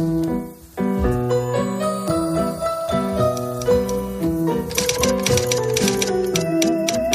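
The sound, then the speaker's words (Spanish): Typewriter keys clatter in quick, uneven bursts over a steady melodic music bed, the mechanical clicking growing busier and more prominent in the second half. “¿Qué máquina de escribir tenías?”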